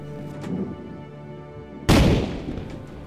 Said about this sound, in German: Zehn Kanonenschüsse lässt Clark während der Bestattung zum letzten Salut für Kapitän James Cook abfeuern.